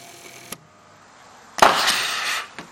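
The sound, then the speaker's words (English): Volcanic eruption with lava bombs striking a car: a sharp lone crack, a pause, then a loud harsh roaring burst for nearly a second, ending in one more short thud. “I heard something hit a car. That's awesome.”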